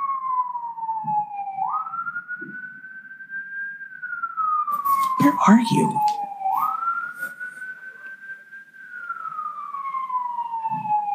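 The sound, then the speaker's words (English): A loud emergency vehicle siren wails continuously, rising and falling in slow sweeps as it passes along the street, with a brief burst of rumbling traffic noise midway and a short spoken phrase. “Another siren. Probably the same siren.”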